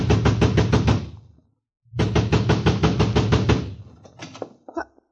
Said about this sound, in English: I ran to the front door and began pounding.